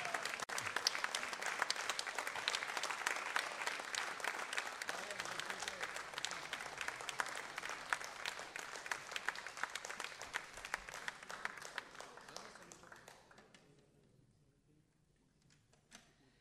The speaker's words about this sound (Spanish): Yo les voy a pedir un fuerte aplauso